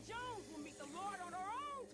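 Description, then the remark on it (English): A mutant snake in a video game hisses with a raspy, voice-like snarl, loud, rising and falling in two drawn-out, warbling cries over a breathy hiss. “Why does the snake sound like a goblin from Diablo?”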